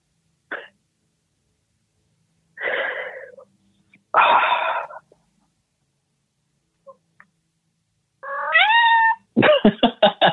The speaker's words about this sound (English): At least I have this cat here to take care of me. That was your cat's timing. Your cat's timing could not be more. Your cat is a comedic genius.